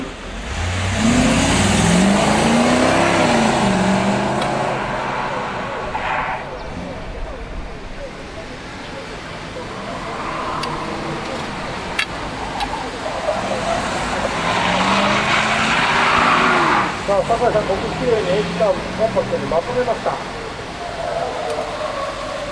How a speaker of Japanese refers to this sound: ブレーキを我慢して奥のターンに備えました。そしてアイロンスネークをきれいにクリアしていきます。スタートサイドからゲートに入って、さあ後半の勝負どころドーナツに入ります。